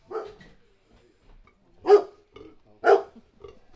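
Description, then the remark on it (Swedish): A dog barks three times in sharp, fairly loud bursts at a small-animal veterinary clinic in Boden, Sweden. The barks are separated by short pauses, with quieter background noise and no talking. “Jag åker ut i djurkliniken på Torpgärdan och av ljudet att döma förstår jag ganska raskt att jag kommit rätt.”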